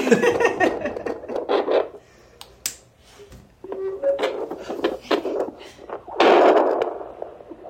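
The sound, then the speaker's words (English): Rough, hissing static from a fetal doppler, used by a perinatal nurse listening for a baby's heartbeat on an expectant mother's belly in a public health office on Alfred Avenue in Smithers. It surges and fades in uneven bursts, broken by sharp clicks and scrapes from the moving probe, with a brief tonal squeal. “It makes a really funky sound when the jaw goes on. I'm really excited to like, get this. Like white noise, but less pleasant.”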